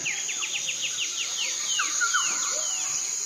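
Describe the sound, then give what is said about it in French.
Birds chirp in a quick run of about a dozen descending notes, followed by a few slower, lower whistles, all over a steady high buzzing drone like insects. No one speaks. “Ouais, c'est encore des oiseaux ça?”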